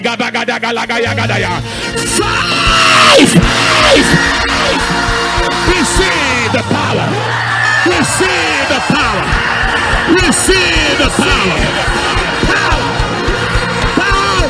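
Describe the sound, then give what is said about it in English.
A large crowd, hands on heads, screams the word "power" together in a loud, sustained roar of many overlapping voices that keeps going without pause for the whole stretch, with a swell partway through. “At the count of five, you place your hand on your head and scream power with just one turnaround.”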